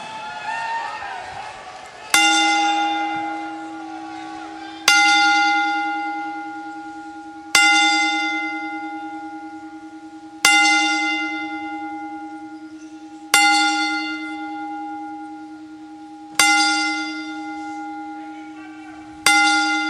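A large ceremonial bell tolls slowly and solemnly, one ringing strike about every three seconds, each long resonant tone fading before the next, with a faint murmur of a crowd in the background; the bell is tolled ten times to honor the life of WWE Hall of Famer Rowdy Roddy Piper.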